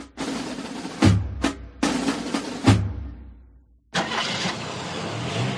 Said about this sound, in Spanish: Coche.